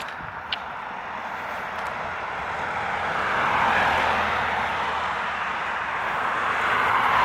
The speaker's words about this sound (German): Nee. Warte. Mir kommen hier zu viele Autos jetzt hier. Ich mag das nicht.